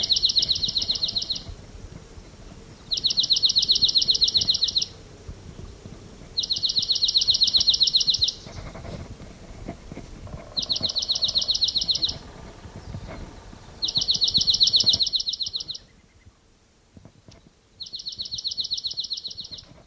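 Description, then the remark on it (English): A bird sings six high, rapid trills, each lasting a second or two and separated by short pauses, fairly loud over a soft low rumble, with no voices. “I mean, it's a recording that I just collected that bird.”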